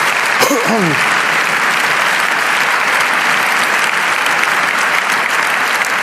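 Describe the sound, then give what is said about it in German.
Sustained audience applause for Andreas Kemper, a dense steady roar of clapping lasting several seconds at an even loudness, with a brief voice or whistle-like sound rising near the start. “Es war dem sein Ding und für den brauchen wir jetzt noch mal einen Applaus kurz, bevor es weitergeht.”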